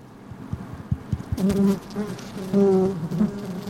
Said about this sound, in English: Inside is a newly arrived colony of 20,000 or so bees.